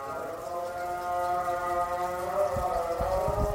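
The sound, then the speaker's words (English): An Islamic call to prayer echoes from a distance in Hargeisa, the capital of Somaliland, a long sustained chanted tone that bends slowly in pitch and holds steady throughout, with a few soft low thumps near the end. “As the call to prayer echoes in the distance,”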